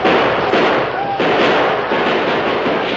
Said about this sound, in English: From the train, more gunfire broke out. A score of men inside the boxcars poured hot fire at the attackers.